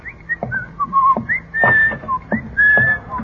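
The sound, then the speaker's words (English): Someone whistles to call a person: a short series of bright, wavering notes, some rising and some held, with brief gaps between them and faint knocks underneath. “I thought you were whistling for me.”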